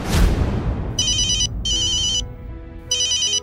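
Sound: phone ringtone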